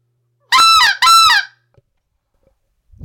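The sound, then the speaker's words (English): A game bird call blown with the burst method in two short, sharp bursts, producing loud goose-like honks back to back, followed by silence. “Burst method.”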